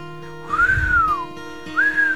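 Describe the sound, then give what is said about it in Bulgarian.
A person whistles two clear notes: a long tone that swoops up then slides down, followed by a second note that rises and holds. No one speaks, and a faint steady hum sits underneath. “Свиря всъщност е думата, която описва звука от духането.”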